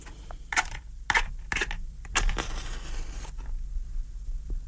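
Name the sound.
lighting a cigar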